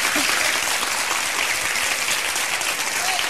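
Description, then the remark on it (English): A church audience in Black Mountain applauds steadily during a sermon, a dense wash of many hands clapping, filling the whole few seconds with no voices rising above it. “It's okay to clap.”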